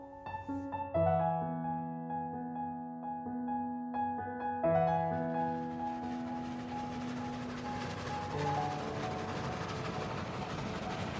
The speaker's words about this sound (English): The train passes through Cumberland. I could get off at Kendal and have a look.